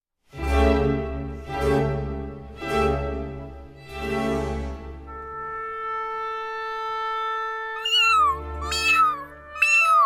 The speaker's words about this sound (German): Die drei Kätzchen neben Vivaldi maunzten so laut sie konnten um Hilfe.